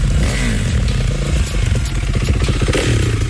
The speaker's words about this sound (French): La voisine. Ah, toute la journée, ça, ça entend la bécane.